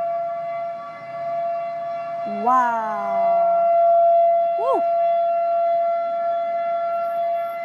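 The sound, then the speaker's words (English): A steady, droning outdoor warning siren going off again in rain and picking-up wind holds one sustained tone throughout, while a person lets out a couple of rising, excited exclamations over it. “I don't know why it keeps going off for. Here we go again.”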